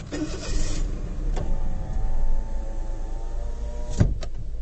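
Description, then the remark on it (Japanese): A car's power window whirs shut with a steady electric motor hum as another car pulls up alongside, ending in a firm thunk as it seals, over a low background rumble. “ちょうど今日はたまたま、隣に車が来たんでちょっと窓を閉めますね。”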